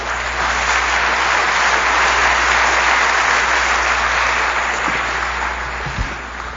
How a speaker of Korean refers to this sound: 목사님 나오실 때 박수로 환영해드리겠습니다.